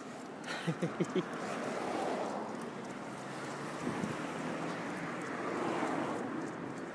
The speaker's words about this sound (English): Lovely. lovely breeze coming in off the river and Petersham Meadows down below. Wow.